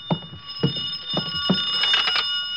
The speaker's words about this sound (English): I could hear the phone ringing from somewhere inside, so I waited to see if anyone answered it. On the third ring, I tried the door.